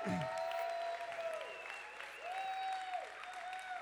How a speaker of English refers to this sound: Stop clapping each other and just receive the clap for yourselves, ladies. Anytime you get women to clap, they'll clap for everyone else as well.